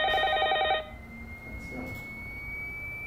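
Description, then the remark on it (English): A telephone rings in one short, loud, rapidly trilling burst, then cuts off abruptly, leaving quiet with a faint steady hum. “The point is, the phone could ring at any time.”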